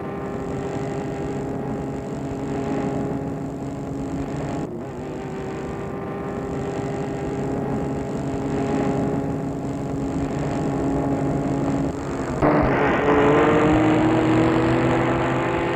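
car engine driving

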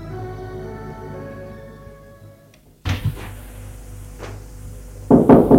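knocking on a door

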